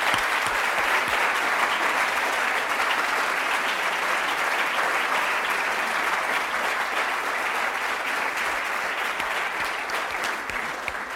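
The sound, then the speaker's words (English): Sustained audience applause for the library community, a dense, steady wash of many hands clapping at full volume for about eleven seconds, with no speech over it. “I wanted to start out by asking those who do not work in libraries to join me in a round of applause for the library community for all that they do.”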